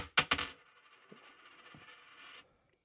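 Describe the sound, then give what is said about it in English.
A flipped Idaho quarter with a bird on it lands tails with a couple of bright metallic clinks, then rings and wobbles with a sustained shimmering tone for about two seconds before settling into silence. “Of course you make me flip a quarter that has a bird on it.”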